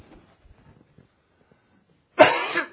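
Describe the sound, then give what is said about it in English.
After a stretch of near silence, a man lets out one loud, harsh cough that rasps into a brief throat clearing. “All right, if I had a cough drop.”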